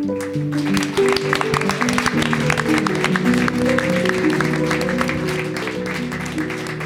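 An audience at a text reading applauds an author steadily for about seven seconds, a dense, even patter of many hands clapping at a fairly loud, constant level, with a sustained tonal hum running underneath.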